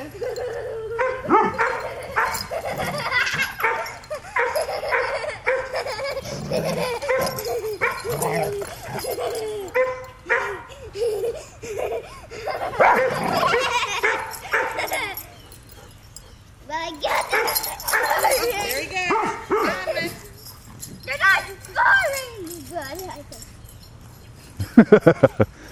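Several dogs play, letting out a steady stream of barks, high yips and a few whimpers in overlapping bursts, with short lulls between, ending in a couple of sharp, loud barks.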